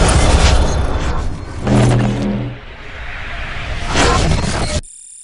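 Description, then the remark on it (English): A truck engine revs loudly in a couple of rising surges, roaring and whooshing as it pulls away, then cuts off abruptly into silence. “Now, before I steal Aaron's truck, let's wrap this season up.”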